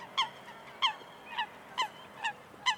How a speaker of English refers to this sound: He famously went to Washington Market in New York and brought home 4 new quacking roommates who raised, Mark said later, quite a racket.